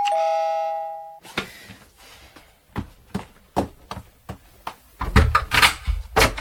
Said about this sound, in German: Ich hatte ihr gerade etwas aus meinem Krokodilbuch vorgelesen, als die Glocke an der Haustür läutete.